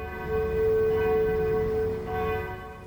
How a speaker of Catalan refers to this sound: Les campanes no paraven i el canó anava disparant, però només se sentia aquell soroll.